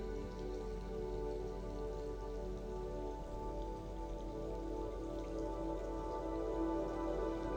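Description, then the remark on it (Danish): Soft, steady rain patters continuously on a surface, a gentle wash of small drops with no pauses, heard alone without any voices. “Regnen og de blide dråber har forvandlet sit følelsesenergi til kærlighed og fred i dit indre.”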